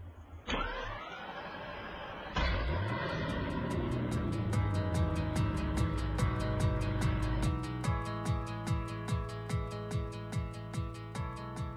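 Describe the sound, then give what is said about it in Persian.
A minibus engine cranks and starts up, then settles into a steady, rhythmic chugging as the vehicle pulls away. There are no voices. “پس بدون هیچ مقدمه‌ای سوار مینیبوسمون میشیم، به صندلیامون تکیه میزنیم و حرکت.”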